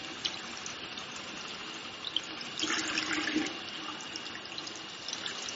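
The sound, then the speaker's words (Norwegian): A steady stream of tap water runs and splashes as hands and forearms are rinsed up to the elbows over a sink, hands held up and elbows down, the hiss swelling louder for a second midway before settling back to a constant flow. “Derfor må jeg, når jeg skyller oppover til albuen, prøve å holde hendene, albuen ned mot vasken og hendene opp.”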